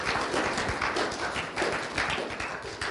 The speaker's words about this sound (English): We'll clap for him.